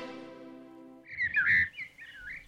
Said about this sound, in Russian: Птица поет. Птица поет, слышишь?